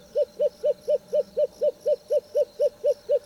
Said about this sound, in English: That does sound like a hoo hoo hoo hoo. What is that? South American short-eared owl.